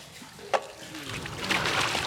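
Water being drawn up from a well: one sharp splash, followed by steady sloshing and trickling that grows slightly louder, with no voices.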